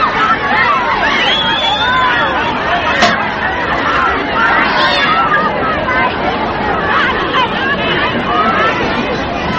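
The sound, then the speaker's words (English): A crowd shaking hands with President Kennedy as he makes his way through it: a dense, steady hubbub of many overlapping voices chattering loudly throughout, with one brief sharp click partway through. “This is the crowd as they shake hands with President Kennedy.”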